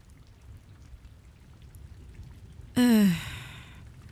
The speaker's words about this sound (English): Great, just my luck. It's raining.